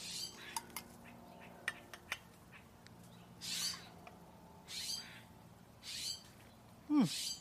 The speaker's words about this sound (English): Hello, what is that bird?